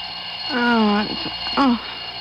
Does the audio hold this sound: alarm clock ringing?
yes